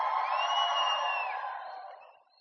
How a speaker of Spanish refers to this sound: ¿Dónde están los valientes que tengan un grito de victoria? Un grito de victoria, pero fuerte.